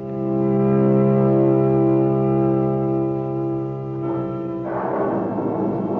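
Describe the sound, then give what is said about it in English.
A deep, sustained tonal drone holds steady, then a thunderstorm breaks in near the end with a loud rush of rain and rumbling noise swelling over it. No one speaks. “The storm swoops down. Rain begins to fall.”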